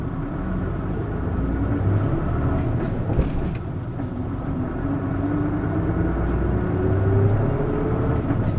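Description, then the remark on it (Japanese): A bus pulls away from a stop, its engine rumbling low and steady while a whining tone climbs gradually as it accelerates, with no talking. “発車します。お捕まりください。”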